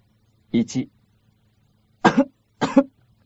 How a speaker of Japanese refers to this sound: 咳をして。熱があるんじゃない？